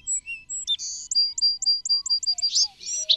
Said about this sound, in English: Thanks to Houghton Mifflin for allowing us to use the Birdsong CD from Donald Kruedsma's book, The Singing Life of Birds.